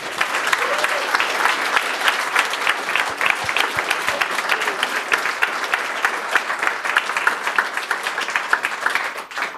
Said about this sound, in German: Super gelungene Veranstaltung. Wir sind euch alle sehr dankbar, dass jetzt JugendHackt auch in Bayern, auch in München am Start ist. Großer Applaus an euch.